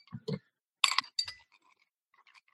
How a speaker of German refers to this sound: Wenn das keine Eiswürfel waren. Das waren Eiswürfel und das ist das entsprechende Getränk on Ice.